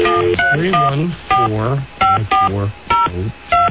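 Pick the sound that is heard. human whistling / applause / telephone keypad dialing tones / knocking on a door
telephone keypad dialing tones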